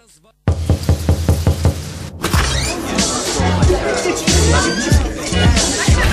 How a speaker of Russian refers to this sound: У нас гости. Ребята, это я ломаю дверь.